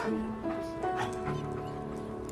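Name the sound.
dog whimpering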